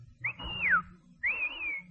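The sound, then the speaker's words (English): A loud, sharp whistle blown to hail a taxi, in two blasts: the first swoops up and then slides down, the second holds a steadier high pitch, over a low background rumble. “That was a taxi whistle.”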